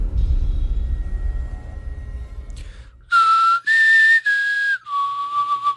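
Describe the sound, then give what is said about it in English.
A person whistles a short four-note tune meant as the Hunger Games whistle. It is clear, the notes rising then falling, with the last one held longest. Low rumbling background noise precedes it. “That was supposed to be the Hunger Games whistle.”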